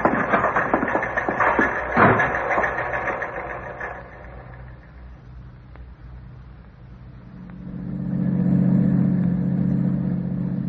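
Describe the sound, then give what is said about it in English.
A car engine runs steadily with a rattling, mechanical hum that eases off midway, then swells again into a lower, droning rumble as the vehicle keeps driving toward an amusement park and camp area, where it is to be left at Watkins' store. No voices are heard. “We can leave the car at Watkins' store.”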